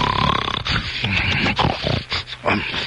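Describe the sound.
On radio station 62 WTMT, a voice loudly imitates snoring, with rough rattling snorts and wheezy breaths that come in several uneven bursts over a few seconds.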